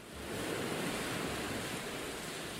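ocean waves

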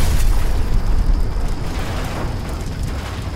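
explosion sound effect

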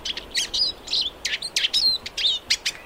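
eurasian siskin song

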